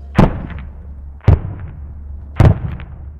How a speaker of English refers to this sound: So Captain Schweib lobs some mortars into the trees to flush out the Taliban and take a chance at hitting them.